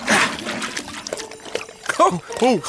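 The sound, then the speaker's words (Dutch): Water for reindeer pours and splashes in a short burst at the start, followed by a couple of brief voiced sounds near the end. “En hier is het water voor de rendieren.”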